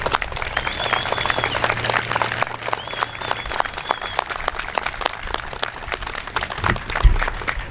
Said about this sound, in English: The designer and commissioner of the Gander Memorial Eternal Flame, Mr. Isaiah Pride, please join me in a round of applause for him.